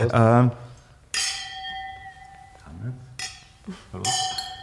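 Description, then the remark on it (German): A brief voice, then glasses of white wine, a Grüner Veltliner from Leiterberg, clink together three times in a toast on a sunny day, each bright strike leaving a clear ringing tone that lingers and slowly fades. “Ja, also es ist ja, wenn ich da hinausschaue, ein wunderschöner sonniger Tag, deswegen auch was Weißes, zum Wohl Prost.”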